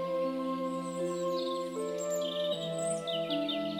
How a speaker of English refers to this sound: You can hear birds singing to each other. Can you hear them?